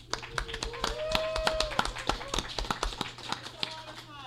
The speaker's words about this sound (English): That gets applause.